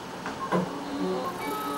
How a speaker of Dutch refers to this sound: Dan gaan we partje voor partje verpulveren en afzuigen. Dat sissende geluid is ultrageluid.